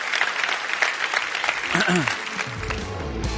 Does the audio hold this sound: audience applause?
yes